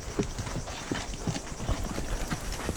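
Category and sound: animal, horse hooves clip-clopping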